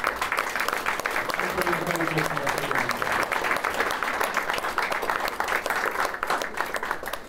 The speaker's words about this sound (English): And on that note, can I please ask for a round of applause for all of our panellists, please?